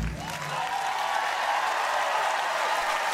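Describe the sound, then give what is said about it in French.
An audience applauds steadily for the whole stretch on the stage of the Ariston during the 76th Sanremo festival, a dense, loud wash of many hands clapping with no single claps standing out and no voices on top. “Ah, on est en plein dedans avec les applaudissements.”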